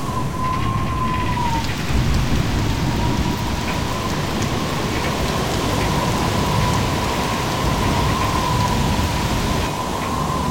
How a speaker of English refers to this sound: This isn't an ordinary evening breeze. There's definitely a storm coming.